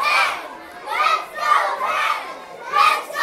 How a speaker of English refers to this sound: Kids rush out into the hallways, lining the walls and lockers. The team streams into the middle school to clapping and cheers.